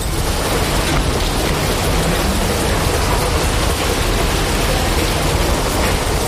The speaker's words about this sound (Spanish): Es el sonido de la lluvia ahora mismo. Si abrimos la ventana de este estudio de la cadena COPE en Mérida